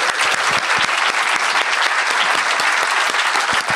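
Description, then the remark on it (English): An audience in a festival tent at Greenbelt claps steadily for the translators at the close of a talk, a dense crackle of many hands at an even loudness throughout, with no voices standing out. “could you give a round of applause to our wonderful translators here, please?”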